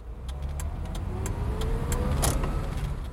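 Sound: car stopping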